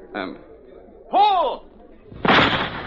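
A sharp gunshot at target birds released at the end of a field, shooters taking alternate shots, bursts out near the end, a harsh noisy blast that lingers briefly, following a short vocal shout and an earlier brief pop.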